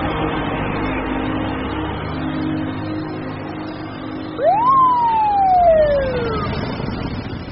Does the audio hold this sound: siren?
yes